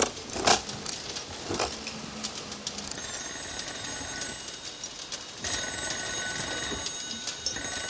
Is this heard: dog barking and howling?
no